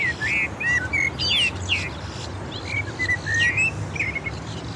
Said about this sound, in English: That's the grackle up there calling now, big male. He's here to roost tonight, but he's also showing off.